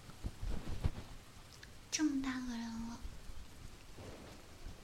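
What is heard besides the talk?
heavy rain falling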